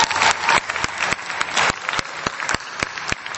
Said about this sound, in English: But I think you should all give yourself a round of applause. This is so cool. We have so many people here.